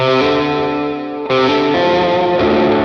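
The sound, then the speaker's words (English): An electric guitar plays sustained, shimmering chords through a chorus effect pedal, loud, changing chords a few times with a slightly distorted, swirling tone and no voices. “This little, is this reverb? What is this, chorus?”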